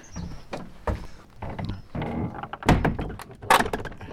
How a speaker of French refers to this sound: Là déjà, les premiers travaux, puisqu'il y a une volée de marches en bois pour descendre quoi, environ 1,50 m, une porte magnifique, en train d'ouvrir.